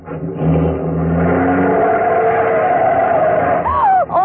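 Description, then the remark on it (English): A taxi engine revs hard and accelerates away as passengers urge the driver to go fast, its loud rising roar filling the whole stretch, with a brief squeal near the end as it speeds off. “There's a taxi across the street. Oh, here we are. Quick, get in. Driver, start going. I don't care where, only make it fast.”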